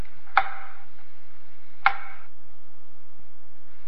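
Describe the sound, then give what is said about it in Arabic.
Two sharp, solid chops of an axe biting into the trunk of an orange tree being cut down by a farmer, spaced about a second and a half apart, each with a brief woody ring, over a faint steady hiss with no voices. “صارت شجرة الليمون تمد جذورها لتسرق الماء من شجرة البرتقال حتى جفت أوراق شجرة البرتقال وقام الفلاح بقطعها.”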